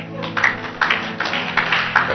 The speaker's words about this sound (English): Yes, clap for him.